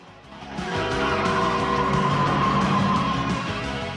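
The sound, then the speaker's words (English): A patrol car's engine revs up loudly as it circles over grass and pulls out onto the main road, its tires letting out a sustained high squeal that holds for a few seconds before easing off. “circles the car over the grass, then motors out onto the main road.”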